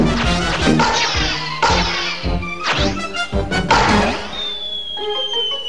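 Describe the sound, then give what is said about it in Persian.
A bat smacks balls again and again as Tom, in a Tom and Jerry cartoon, hits balls fired by a ball-throwing machine that Jerry switched on: five or six loud, sharp whacks at an uneven pace, mixed with whooshing, zipping cartoon sound effects and ringing tones. No one speaks. “تام توپا رو با چوب میزنه.”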